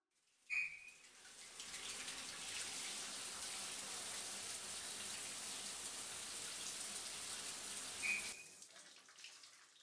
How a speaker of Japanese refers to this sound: 全身泡になったね。うん、泡を流していこう。